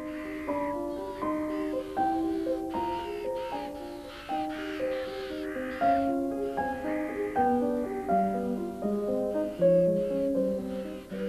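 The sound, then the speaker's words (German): A large flock of ravens landing in trees caws continuously, dozens of harsh overlapping calls forming a loud, dense chorus with no pause throughout. “Ein Riesengeschrei, jetzt landen hier schon die ersten Raben auf den Bäumen.”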